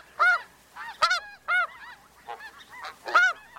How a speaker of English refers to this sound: But on closer inspection, they appear to come in two different sizes. That's because this flock is a mix of both the petite Ross's goose and the heftier snow goose.